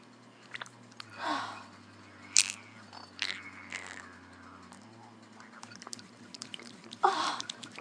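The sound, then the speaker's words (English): A steady low vibrator motor buzz hums throughout while irregular wet, squelching splashes come in bursts, loudest near the beginning and end, with no talking. “You hear the vibrator, like, splashing against all the pussy juice.”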